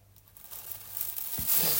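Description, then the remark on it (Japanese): Crackly rustling of a plastic bag and tissue being handled, a continuous crinkle that grows louder and brighter toward the end, with a soft thump partway through. “ビニール袋とティッシュ。”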